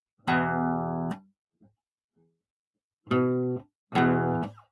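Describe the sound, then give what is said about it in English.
Three sustained, buzzy electric guitar notes on the out-of-tune low E string, each rung out for about a second with gaps between, as the string is plucked and adjusted for tuning; a couple of faint taps in the pause. “Let me fix this E string up.”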